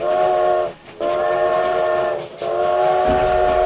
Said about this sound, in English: Out to the west, a train carrying several boxcars roaring forward at 45 miles per hour. And to the west, another train, also carrying several boxcars, also roaring forward at 45 miles per hour. Both conductors lay on their whistles